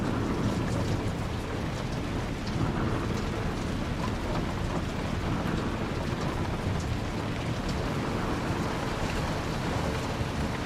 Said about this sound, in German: Die rhythmischen Geräusche des Regens, der gegen die Fensterscheiben prasselt, und das Knarren der Windmühlenflügel verschmelzen zu einer beruhigenden Melodie.